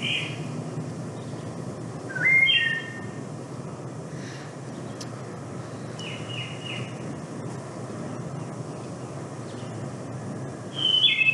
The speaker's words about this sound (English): So that dominant thing we're hearing is the wood thrush, what the old timers call the Eole, because it sounds like it's saying Eole.